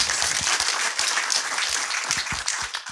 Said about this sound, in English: Round of applause